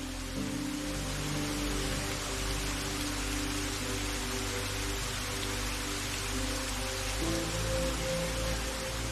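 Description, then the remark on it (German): A distant waterfall rushes in a steady, unbroken roar, a dense watery hiss with a low rumble beneath, holding an even level throughout with no voices. “Aus der Ferne kannst du das Rauschen eines Wasserfalls hören.”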